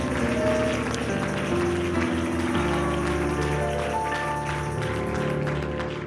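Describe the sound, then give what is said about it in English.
A church audience gives the Lord a hand clap of praise before being seated, a steady, dense wash of applause over sustained organ or keyboard chords, holding an even loudness throughout with no speech. “Let's give the Lord another hand clap of praise before we're seated.”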